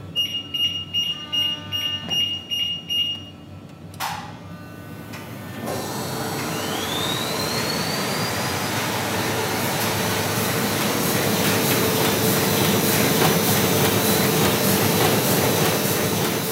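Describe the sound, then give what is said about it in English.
A four-colour printing press at Calvert's printing and publishing house running 1,000 sheets of sticker paper: a series of electronic warning beeps, a sharp clunk, then the machine spins up with a rising whine into a loud, steady, rhythmically clattering roar. “We've just made ready and we're just about to run 1,000 sheets of sticker paper in four colour.”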